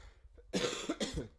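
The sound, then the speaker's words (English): Two harsh, close coughs in quick succession, the first slightly longer than the second, with no talking around them. “Still have the cough.”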